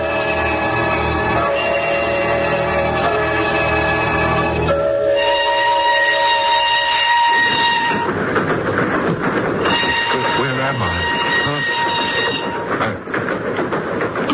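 A train rolls loudly and continuously along the rails, its heavy rumble and clatter filling the whole stretch, with sustained high metallic tones ringing over it early on. No one speaks.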